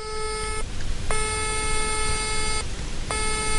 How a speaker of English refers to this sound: That's a ringtone that it's claimed can help cure you of hay fever.